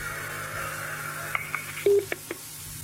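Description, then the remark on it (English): Telephone line tones on an open connection as a caller hangs up and another call comes in: a handful of short electronic beeps and clicks, one slightly longer tone, all over a steady low hum and faint line hiss, with no one talking. “Well, they've gone, but someone else is ringing up, I think.”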